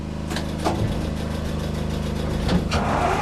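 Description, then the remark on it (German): The engine of a captured Russian infantry fighting vehicle under repair starts and rumbles loudly and steadily, with a few sharp bursts and surges in its roar as it revs, in the yard of a former car workshop in Ukraine's Kharkiv region; no voices are heard. “Der Motor springt an.”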